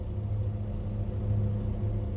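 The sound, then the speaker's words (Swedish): A truck engine idles steadily outside a house, heard from a basement room at the back of the house just after midnight: a deep continuous rumble with a low hum that holds constant throughout, somewhat muffled. “Utanför hörs ljudet från en lastbil på tomgång.”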